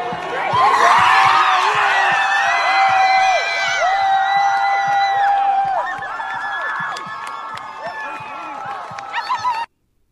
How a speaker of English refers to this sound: American flag comes down the flagpole. They're cheering.